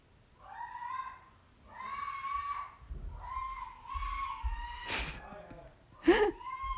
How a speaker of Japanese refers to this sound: 悲鳴入ってるかな。気にしないでください。いつもの母の発作です。悪夢を見ているだけです。